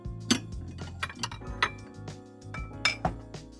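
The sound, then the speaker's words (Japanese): Plates and utensils clink together several times in irregular succession, moderately loud, as food is served onto plates at a yudofu (simmered tofu) restaurant in Kyoto; no one speaks. “はい、お嬢さん、取り分けてあげるからお皿貸して。”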